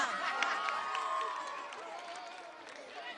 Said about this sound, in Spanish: A ver, mucho más fuerte ese aplauso.